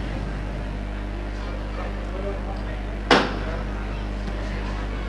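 A procession float's metal knocker (llamador) strikes once, signalling the bearers to lower the float carrying the Dolorosa with white wallflowers; a single sharp, bright clack that rings briefly over a steady low hum and soft background murmur.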